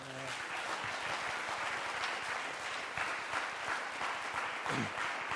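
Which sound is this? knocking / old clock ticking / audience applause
audience applause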